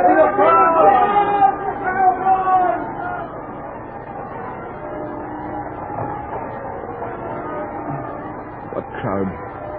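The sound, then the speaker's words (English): A dense, enthusiastic crowd in the city of Paris chatters and murmurs throughout, with several raised voices standing out loudly in the first few seconds before settling into a steady, bustling hubbub. “Oh, your majesty, never in the history of this city have I ever seen such enthusiastic crowds.”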